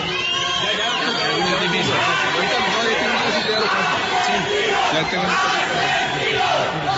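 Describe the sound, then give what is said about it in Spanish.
A large crowd shouts and chants "asesinos" (murderers) at supporters of Uribe, a dense roar of many overlapping voices that stays loud and steady throughout, with no pauses or quieter stretches. “La multitud gritándole asesinos a los uribistas, y los uribistas: estudien, vagos, parranda de vagos.”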